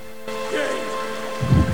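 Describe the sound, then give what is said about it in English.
A waterfall on moorland gently rippling over a cluster of rocks, a steady hiss of running water that swells into a deeper, louder splashing rumble near the end. “She makes her way through the tall grass and over to a waterfall gently rippling over a cluster of rocks.”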